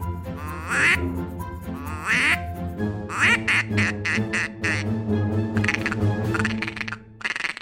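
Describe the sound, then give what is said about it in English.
A person blows a duck call imitating mallards: a few drawn-out, raspy quacks of the male and female mallard calls, then a rapid, rhythmic stream of short chattering quacks like feeding ducks, loud and with no talking. “That was 3 calls. It was the male mallard call, it was the female mallard call, and it was ducks feeding.”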